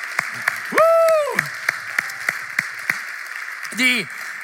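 An audience at a 12 o'clock church service applauds loudly with a steady wash of clapping, with sharper individual claps standing out at regular intervals and a couple of rising, whooping cheers over it.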